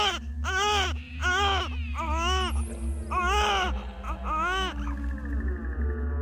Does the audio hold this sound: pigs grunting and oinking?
no